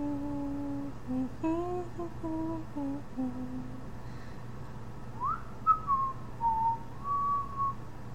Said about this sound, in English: I'm sorry, is the whistling and humming worse than the obnoxious chatter?